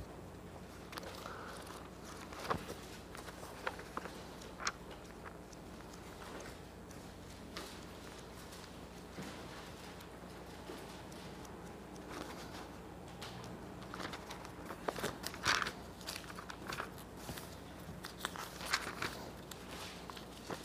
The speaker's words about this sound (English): So long I've been back into using a paper Bible, so now I get to turn pages.